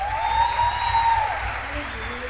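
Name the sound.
audience applauding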